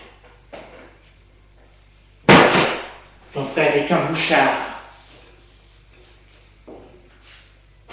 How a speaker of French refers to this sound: La porte de sa chambre s'est ouverte.